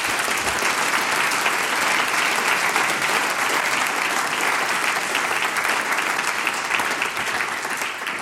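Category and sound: crowd, big applause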